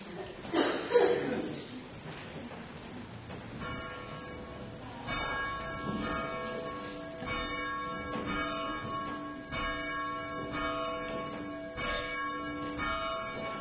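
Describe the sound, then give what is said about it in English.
A church bell rings out repeatedly with long, ringing overtones, each strike blending into the next in a steady, resonant peal, preceded by a brief murmur of voices and a chuckle. “And then after they have rung it, I'm going to invite the young people and the children who would like to ring it.”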